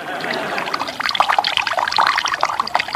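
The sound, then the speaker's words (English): Water pours steadily from a water jug into a funnel of rolled-up newspaper whose pointed end is placed in a sleeping man's ear, a bright continuous splashing and gurgling with bubbly pops, moderately loud, with no talking over it. “I'll roll the newspaper up into a funnel. I'll place the pointed end in his ear. Now, where's the water jug?”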